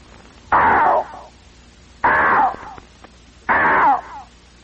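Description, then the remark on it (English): A voice imitates a strange bird call heard about every half hour in the afternoon, three times, each a loud, harsh, wavering cry of about three-quarters of a second with a falling tail, separated by short pauses. “And then there's always something about every half hour that lets out a very strange sound, a little like this.”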